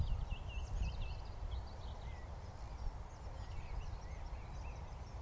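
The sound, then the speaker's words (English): A morning chorus of many birds in England around 7:30 on a sunny April morning, heard while walking a dog: high chirps and trills overlapping continuously, set over a steady low rumbling background noise. “Maybe not, but it's a cacophony of birdsong.”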